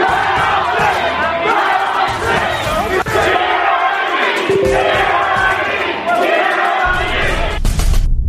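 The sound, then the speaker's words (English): A large crowd of protesters shouts and roars continuously, many voices blending into a loud, dense wall of yelling, with occasional louder cries rising above the din throughout. “is going to show you the crowd.”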